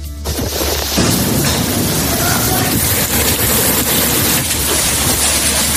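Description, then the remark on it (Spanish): A loud, constant roar of storm wind and torrential rain during storm Betty on Mallorca in the Balearic Islands, with deep rumbling gusts and buffeting thuds throughout, overwhelming, with no voices. “Todo volando, un viento increíble, lluvia torrencial”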